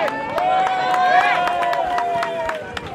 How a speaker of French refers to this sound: Non mais je viens de comprendre, excusez-moi, c'est des applaudissements, des encouragements partisans là.